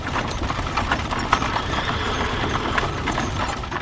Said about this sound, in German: die mit Pferdefuhrwerken zu Unzeiten, sprich vor allen Dingen nachts, über das Kopfsteinpflaster der Stadt Rom gepoltert sind